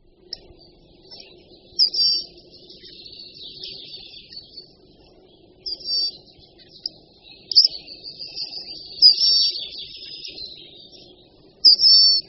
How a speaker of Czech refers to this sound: Určitě budete překvapeni, že tento tichý a nenápadný zpěv vydává náš největší pěnkalovitý pták Blask tlustozobý. Jedná se o směsici švitořivých a vrzavých tónů, která kdyby nebyla prokládaná takovým cvakáním a sykavými slabikami, tak by zcela unikala